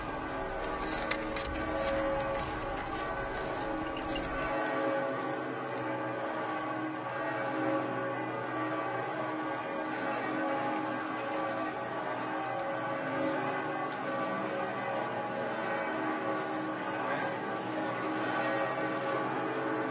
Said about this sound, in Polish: dzwony Bazyliki Santa Maria Maggiore, Matki Bożej Większej, do której zbliża się procesja.